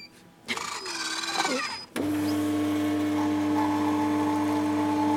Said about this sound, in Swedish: Nu sköljer vi kaffemaskinen.